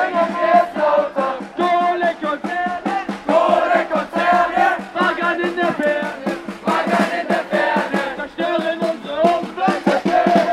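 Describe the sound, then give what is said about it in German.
A crowd of protesters sings loudly together, many voices blending into a steady, rhythmic chant-like song that holds strong throughout without pause. “Das war doch viel zu leise. Drum singen wir jetzt lauter.”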